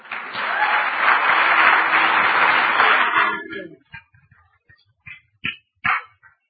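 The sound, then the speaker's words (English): Following a prayer, a crowd claps loudly and steadily for about three seconds to applaud people for their courage and obedience, then the applause fades away, leaving a few scattered claps and small sounds. “And as they say yes tonight, Lord God, we just want to applaud them for their courage and their obedience as they serve you in Jesus' name.”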